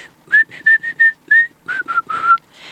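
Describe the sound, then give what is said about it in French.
A person whistles an imitation of a bird singing on a house roof: a run of short, bright, high-pitched notes in quick succession, with slight pitch slides, followed by a few lower, longer warbling notes, clear and fairly loud. “Lorsqu'il entendit l'oiseau qui chantait sur son toit, cela lui parut si beau”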